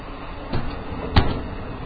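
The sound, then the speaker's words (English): Two heavy thuds as a man kicks open a train car door with his foot in Maryland, needing two kicks, the second blow sharper and louder than the first, over a low rumbling background with no talking. “has kicked the door. I had to kick it twice.”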